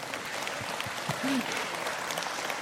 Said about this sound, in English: It is okay to clap and to celebrate that he's coming back again.